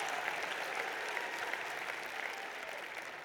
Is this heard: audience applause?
yes